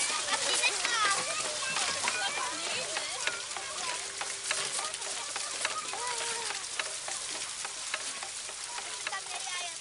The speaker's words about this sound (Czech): Pokud uslyšíte tento rytmický klapavý zvuk, zamířte k němu. Zcela neomylně vás zavede k takzvanému egyptskému kolu.